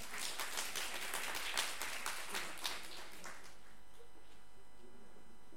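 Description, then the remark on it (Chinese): An audience claps in steady, dense applause for about three seconds in appreciation of a church member's service, before it dies away, leaving a faint, constant electrical hum. The applause is fairly soft overall. “但这个侍奉是值得我们每个人给他掌声，他鼓励他，是不是？”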